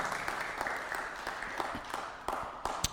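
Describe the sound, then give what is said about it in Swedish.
A crowd applauds steadily for a few seconds for three performers, a dense wash of many hands clapping with a few sharper claps standing out. No one speaks over it. “Det är värt en applåd.”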